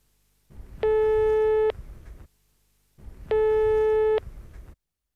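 A telephone ringback tone purrs twice through a phone line as a call goes unanswered, each steady buzzing tone lasting under a second with a pause between, over a background of line hiss.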